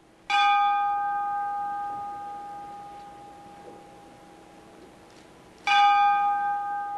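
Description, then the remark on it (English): A ship's bell is struck twice, about five seconds apart, at a memorial ceremony in a convention hall where it rang 11 times, each clear metallic clang ringing out and slowly fading in the silence. “The convention hall went silent as a ship's bell rang 11 times.”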